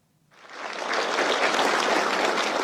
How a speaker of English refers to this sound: Executives of China's top tech firms applauded as China's leader Xi Jinping and other top officials entered a huge meeting room in Beijing's Great Hall of the People.